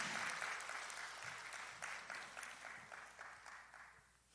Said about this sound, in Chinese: 阿们，我们给神一个掌声。